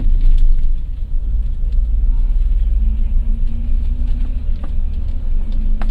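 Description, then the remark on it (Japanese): A Hato Bus tour bus engine rumbles deep, its low drone steadily climbing in pitch as the bus departs on the Yamanote-Shitamachi Best Selection sightseeing course, a continuous throaty hum lasting the whole six seconds. “こちら出発いたします。”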